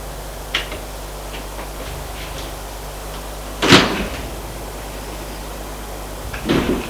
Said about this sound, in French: Arrivée à l'étage, elle va ouvrir la porte de son appartement. Elle ouvre, éclaire,